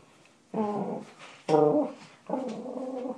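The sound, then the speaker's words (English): A dog whimpers in three drawn-out, high whining cries separated by short pauses, fairly loud and with no talking over them. “He can't shoot that dog.”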